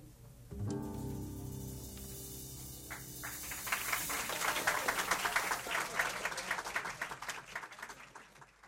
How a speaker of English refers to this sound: Seems fitting that should end with applause.